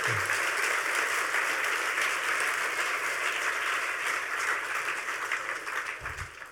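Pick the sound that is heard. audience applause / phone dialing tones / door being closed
audience applause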